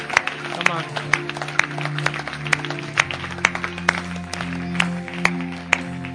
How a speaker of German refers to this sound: Können wir Gott einen Applaus geben heute Morgen?